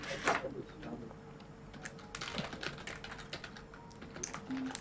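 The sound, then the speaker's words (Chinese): Someone types a comment on a computer keyboard in quick, irregular bursts of soft clicking keystrokes, moderately quiet, over a low steady room hum. “但是我们虽然发现了这个 bug， 还是要打字说哇，连痣都一模一样。”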